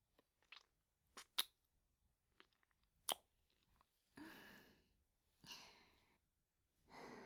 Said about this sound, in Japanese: すごく息荒くなっちゃってますね。ちょっと恥ずかしいですね。